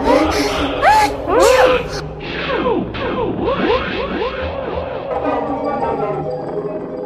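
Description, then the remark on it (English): In a kitchen with too much pepper in the air, several sharp, loud sneezes burst out in quick succession near the start, followed by a chaotic jumble of wailing, sliding vocal cries and howls as a baby sneezes and howls alternately without a pause. “Even the Duchess sneezed occasionally, and as for the baby, it was sneezing and howling alternately without a moment's pause.”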